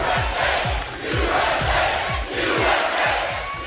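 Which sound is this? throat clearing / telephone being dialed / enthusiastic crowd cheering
enthusiastic crowd cheering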